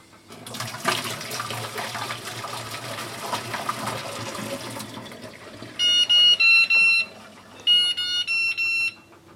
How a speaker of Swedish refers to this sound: Sen för att behålla batterifunktionerna så där, så ska man spola både det riktiga ägget och melodiägget med kallt vatten i en stund, och då ska melodiägget sluta spela sen när efterkokningen är klar.